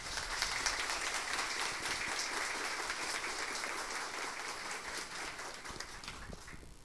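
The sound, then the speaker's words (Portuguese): An audience claps steadily for several seconds for a man being honoured as a new citizen of Rio Preto, a dense, even patter of many hands that stays loud throughout and tapers only slightly at the end, with no voices over it. “hoje um cidadão riopretano, ao qual pedimos uma salva de palmas.”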